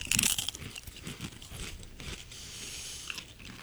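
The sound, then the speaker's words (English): Crisp, crackly crunching of wavy electric lime and sea salt potato chips being bitten and chewed, loudest in the first half-second, then continuing as a steady, softer munching with no talking. “The wavy lime, electric lime and sea salt. Here we go.”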